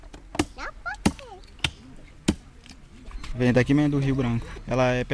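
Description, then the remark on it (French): Four sharp, heavy chops land at a steady pace on a wooden table as a young man cuts up a fish nearly 2 metres long from the Rio Branco on Tupari land, followed by voices talking with faint chirps in the background. “Sur une table de bois, un jeune homme découpe un poisson de près de 2 mètres de long.”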